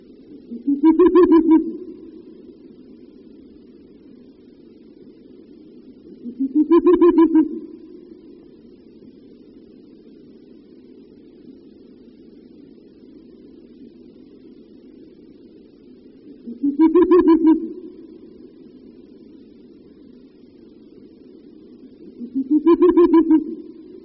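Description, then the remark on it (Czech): Four deep, resonant hoots from a male Ural owl near its nest ring out at spaced intervals over a low, continuous bubbling call, the calls fairly loud with quiet gaps between them. “Na následující nahrávce uslyšíme opět hlas samce, který poblíž hnízda někdy doplňuje své houkání hlubokým bublavým vábením.”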